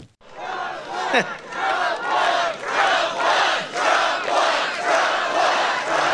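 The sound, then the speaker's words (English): A large crowd at a rally roars and cheers loudly and continuously, the noise swelling in rhythmic surges roughly once a second, like a chant, with no single voice standing out. “As bad as that is, the single biggest issue, the issue that gets the most pull, the most respect, the biggest cheers, is talking about the election fraud of 2020 presidential election.”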